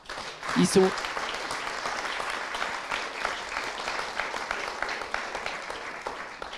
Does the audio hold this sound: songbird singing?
no